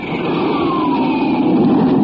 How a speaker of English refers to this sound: Listen to this jet plane streak through the air.